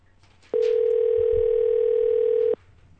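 A single telephone ringback tone sounds for about two seconds as a call to a woman goes unanswered, a steady electronic hum that starts and stops abruptly, with only faint background noise around it and no voices.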